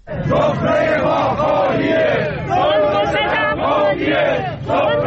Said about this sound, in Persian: دیروز اینجا بازنشستگان معترض در تهران مقابل مجلس و در شهرهای بزرگ دیگر ایران در تجمعاتی اعتراضی شرکت کردند. اعتراضشان به اجرای ناقص قانون متناسب سازی حقوق است.